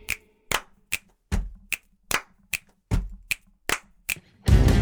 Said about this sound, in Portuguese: O meu corpo é um instrumento muito bom, estalando o dedo e batendo palma, bato o pé no chão, volto a bater a mão, estalando o dedo novamente e unindo os três, vem um ritmo novo e envolvente.